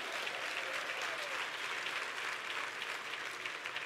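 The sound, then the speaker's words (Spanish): A crowd applauding steadily, a dense wash of many hands clapping at once that holds even and moderately loud for a few seconds with no voices standing out. “Si usted quiere, aplauda, y si no, no.”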